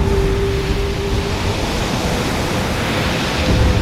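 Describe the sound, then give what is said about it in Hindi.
Rough sea surf roars steadily and loudly, a dense wash of crashing waves with a faint wind-like hiss and a brief tonal hum early on, no voices present. “प्रभु, समुद्र देव तो और भी भयानक रूप धारण करते जा रहे हैं।”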